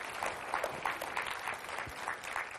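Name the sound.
audience clapping hands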